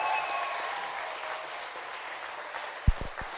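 A crowd at a baptism applauds steadily as a woman gets into the baptism pool, a dense sustained patter of many hands clapping, with a few sharp low thumps near the end.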